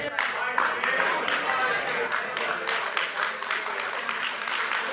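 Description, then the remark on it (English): An audience at a board meeting gives a standing ovation in support of Tri-State's Public Radio, lasting more than a minute: dense, sustained applause with many hands clapping at a steady loudness for the full five seconds, with crowd voices and cheers mixed into the din. “The standing ovation lasted more than a minute.”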